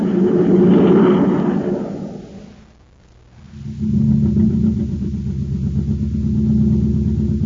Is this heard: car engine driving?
yes